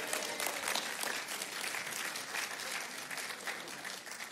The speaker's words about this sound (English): That'd be a good spot to clap, sure.